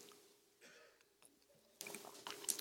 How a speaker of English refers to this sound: I'm pausing here because, besides having a little drink of water, because I would ask you,